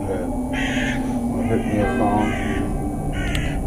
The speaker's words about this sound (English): Like the crows.